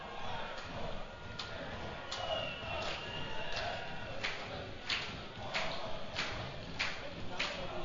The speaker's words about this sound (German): Ja, vielleicht hat er ein bisschen die Stimmung von den Zuschauern von Lotte hier auf der Tribüne. Dezentes Klatschen würde ich sagen. Dezentes Klatschen.